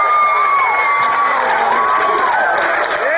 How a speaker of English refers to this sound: I mean, there were women screaming like they were at a rock concert, and then the dumb yokel goes, yeah, idiot Gomer.